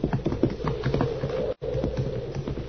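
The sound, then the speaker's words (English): Horses' hooves clip-clop in a quick, steady rhythm as the horses go off, fairly loud, pausing for a split second midway before carrying on. No voices are heard. “He'll be after the horses.”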